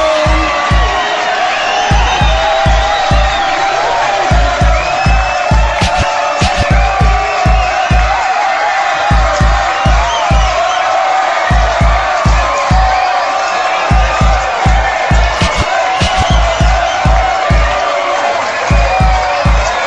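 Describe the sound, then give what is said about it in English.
A big, loud crowd screams and shouts nonstop, with steady pounding low thumps beneath the roar, like a packed live concert in full swing. “Let me hear the ladies scream. All the fellas say ho.”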